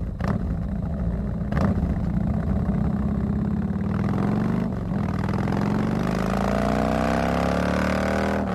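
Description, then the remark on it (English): A Harley-Davidson motorcycle engine rumbles loudly, idling with a deep, uneven throb before revving steadily higher in pitch over the last few seconds, with no voices. “And now, for your listening pleasure, a Harley-Davidson engine.”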